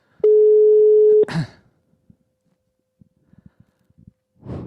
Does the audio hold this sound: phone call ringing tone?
yes